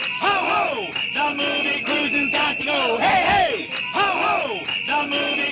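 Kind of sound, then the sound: crowd, protest crowd chanting slogans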